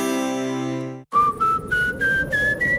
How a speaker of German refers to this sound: Durch Ihre Haustür pfeift, dann ist sie wohl nicht ganz dicht.